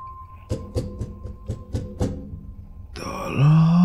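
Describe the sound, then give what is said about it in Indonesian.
A run of about six rhythmic, breathy grunts, followed by a loud, drawn-out groan that swells into a low, pained moan at the end. No one speaks. “Seperti suara rintihan yang sangat menyakitkan.”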